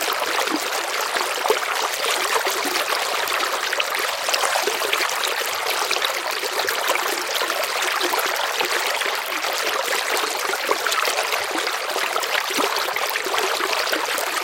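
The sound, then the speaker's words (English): Steady rushing of flowing river water, a continuous bright babble that stays even throughout, with no voices or other sounds on top. “They saw the shimmering river,”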